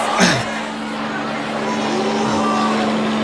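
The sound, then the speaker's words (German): Pedro's helicopter approaches as he returns, its engine a steady, droning roar over a constant low hum that slowly grows louder, with a brief whooshing sweep at the very start. “Der Hubschrauber! Pedro kommt zurück!”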